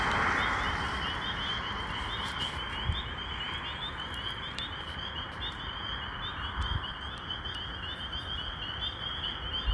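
A dense, continuous chorus of spring peeper frogs calling together in 2022, high shrill peeps blending into a steady wall of sound, with no voices present.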